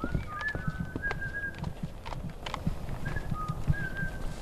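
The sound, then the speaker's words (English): A man on a walk through the Quagg Wildlife Refuge in the Pine Barrens of southeast Suffolk County whistles to an eastern towhee, short clear tones followed by a longer trill, repeated twice, over soft outdoor background noise with low rumbling. “On a walk through the refuge, he whistles to an eastern towhee, one of the local bird species.”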